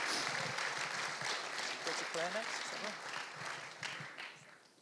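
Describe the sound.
A crowd applauds steadily for several seconds, a dense crackle of many hands clapping, with a few voices calling out or cheering midway through before the clapping tapers slightly.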